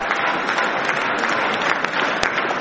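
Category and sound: crowd, supporters applauding and cheering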